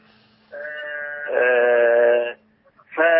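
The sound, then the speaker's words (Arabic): A sheep bleats loudly in a long, quavering cry that swells midway, falls briefly silent, then starts another bleat. “وربنا كرمني ولدت ولد، فأنا قلت هذبح خروف.”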